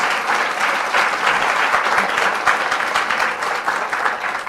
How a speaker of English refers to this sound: Let's have a nice round of applause for our panelists here today.